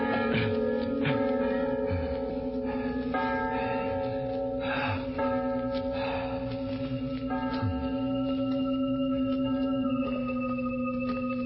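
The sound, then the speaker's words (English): Church bells ring loudly and continuously, their strong sustained tones overlapping in a dense, reverberant peal that carries through the whole stretch without pause or any voices. “Well, I told you to stop those bells.”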